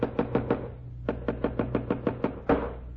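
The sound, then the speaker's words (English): A hammer pounds nails into loose window moldings to fix them, in sharp, ringing blows: four quick strikes, a short pause, then a steady run of about eight more and one final hit, over a low steady hum. “How long do you expect me to sit in this room listening to people pounding nails?”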